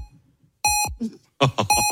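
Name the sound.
three electronic beeps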